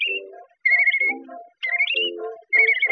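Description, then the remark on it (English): A person whistles in imitation of a bird: three short bursts of bright, warbling high notes layered over lower fluttering tones, with brief pauses between and no talking. “But I told him I could claim attention whistling like a bird.”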